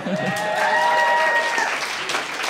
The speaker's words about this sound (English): I would disagree and would ask that the applause sign go up.